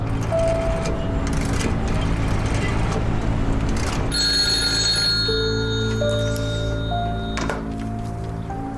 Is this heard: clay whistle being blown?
no